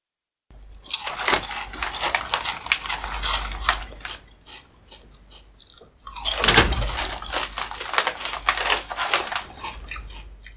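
Loud, crunchy chewing of chips, a rapid irregular series of crisp crackling bites with a brief quieter pause in the middle before the munching resumes at full strength.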